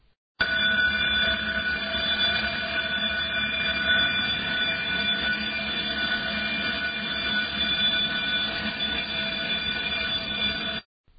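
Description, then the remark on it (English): A building fire alarm, which went off one morning for about an hour for an unknown reason, rings continuously at a loud, steady level, a harsh unbroken electronic tone with strong bright harmonics and no pauses, heard alone without voices. “In fact, one of the issues we had was this morning, the fire alarm went off. We don't know why the fire alarm went off, but we actually have some audio of what it sounded like.”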